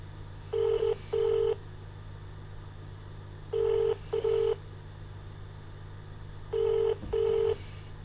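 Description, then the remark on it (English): A telephone ringback tone sounds three times, each a quick double burst spaced a few seconds apart, over a steady low hum. Nobody answers, and no one speaks. “They ain't going to pick up the phone because they know what they're doing to me and to my brother.”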